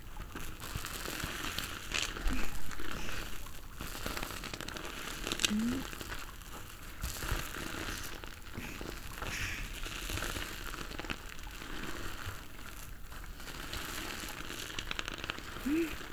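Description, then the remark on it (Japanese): Continuous wet squishing and crinkling as a foam sponge is squeezed and worked to whip soap into fluffy, smooth lather, steady throughout with a few faint vocal sounds. “では、泡がふわふわ滑らかになって、指で押しても戻るくらいになるまで、頑張って泡立てましょう。”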